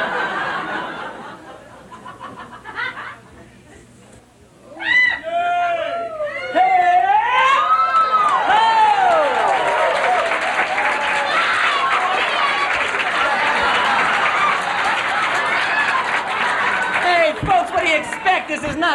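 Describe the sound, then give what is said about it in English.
An audience at a magic act breaks into loud clapping and cheering after a few quiet seconds. Whoops and voices rise and fall over a steady wash of applause that holds strong to the end. “Usually I keep doing this till somebody claps, but we haven't got time tonight.”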